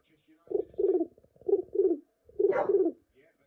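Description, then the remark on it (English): A person imitates a West Midlands pigeon's coo: three low, throaty, rolling phrases, each split into two warbling parts with short pauses between, fairly loud and without any talking. “I've told you I can do the best pigeon impression nationwide.”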